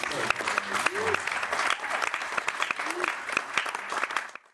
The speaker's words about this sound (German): Das ist auf jeden Fall ein Applaus wert.